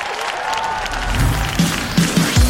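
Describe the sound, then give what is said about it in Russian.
A large audience at the Kremlin claps in a steady, dense wash of applause, with a few voices calling out over it toward the end. “Во-первых, аплодисменты, Кремль!”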